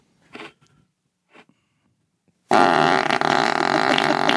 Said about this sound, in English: He's farting on his food. Just for good luck.